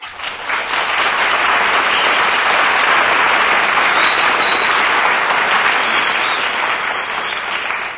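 Sustained applause from a large audience after a tribute saluting the United States Marines on their anniversary, a dense, even wash of many hands clapping that rises quickly, holds steady and loud for several seconds, then eases slightly toward the end.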